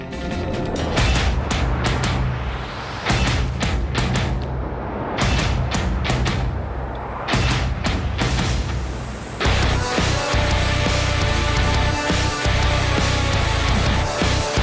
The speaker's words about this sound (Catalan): escolteu aquesta versió de la música de Terminator